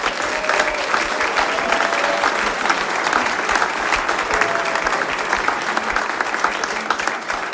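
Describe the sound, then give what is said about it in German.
Sustained audience applause, a dense wash of many hands clapping at steady loudness for several seconds, with faint crowd murmur and a few brief tonal whistles or cheers mixed in. “großer Applaus und ich darf noch...”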